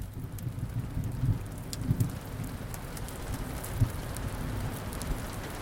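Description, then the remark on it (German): Soft, steady rain falls continuously, a dense patter with a low rumbling undertone and a few slightly louder drops, calm and even throughout with no voices. “Dann hörst du ein sanftes Regengeräusch.”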